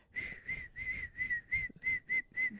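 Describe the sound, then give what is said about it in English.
A person whistles a quick, bouncy phrase of about eight short repeated notes in a steady rhythm, fairly clear, with no talking. “I can't whistle very well.”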